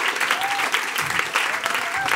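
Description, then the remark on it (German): An audience claps for a choir's performance in a radio station's classical department, a steady, dense, sustained wash of applause, loud and continuous throughout with no pauses, a faint whistle-like tone briefly rising over the clapping. “Ein extra Applaus nochmal.”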